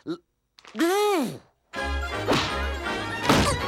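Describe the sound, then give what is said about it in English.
A loud, drawn-out yell swoops up and down, then a continuous clatter of crashing and smashing objects with heavy thuds follows, mixed with shouting voices, chaotic, as Homer and Tom brawl in an antique shop and Homer smashes things. “Homer and Tom's brawl spills over into an antique shop. When Tom steps back outside, Homer's too busy smashing things to notice.”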